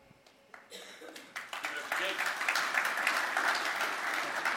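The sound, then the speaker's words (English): Applause from an audience at the end of a talk, before questions, that begins with a few scattered claps and swells within a couple of seconds into steady, dense clapping that holds at full strength to the end. “I'm not done yet. I'm still here. Not to clap.”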